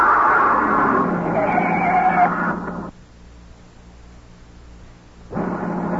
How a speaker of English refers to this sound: It wasn't a shot. A front tire had blown out. He drove the car off the road down an embankment where we couldn't be seen.